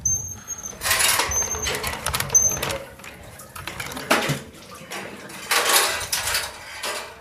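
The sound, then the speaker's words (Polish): Repeated splashing and sloshing of clean water being scooped into a bucket and poured, with hollow clinks of the container, fairly loud, in several bursts with brief pauses between. “To jest dobre, bo tego, bo jak tylko stoi się ta woda, nie? No to można nabrać, nie, tej czystej, bo jak taka omętna, no to omętna jest, no.”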